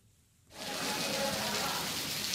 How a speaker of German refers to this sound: Zu Beginn der Unterrichtsstunde Glück an dieser Gesamtschule in Delhi ist nur das Plätschern des Monsunregens vor den Fenstern zu hören und ein wenig Murmeln aus anderen Klassenzimmern.